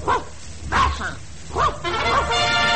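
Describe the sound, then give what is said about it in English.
A dog, Handsome Dan of Yale, barks several times in short, irregular, loud bursts, with a muffled, slightly noisy background like an old recording. “Harvard is guilty of dog-napping”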